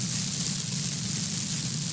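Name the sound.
rain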